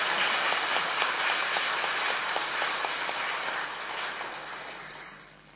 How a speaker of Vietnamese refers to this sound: Chúng ta hãy cho một tràng vỗ tay thật là lớn để chúc mừng.